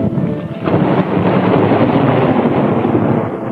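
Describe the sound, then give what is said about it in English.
Steady, dense English rain hisses throughout while a deep roll of thunder swells in after the first half-second and rumbles on heavily to the end. No voices are heard. “The clump of the clods of earth thrown in upon it, and the everlasting English rain.”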